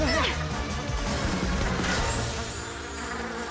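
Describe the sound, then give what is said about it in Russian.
A dense swarm of wasps buzzes loudly and continuously, the droning mass filling the scene while crashing and thudding impacts break through underneath. “Вам не избежать моих ос!”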